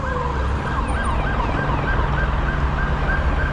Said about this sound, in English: Copper lights and sirens on coming this way.